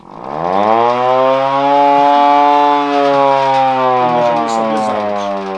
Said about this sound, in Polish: O, mamy taką syrenkę, ale to ręczną.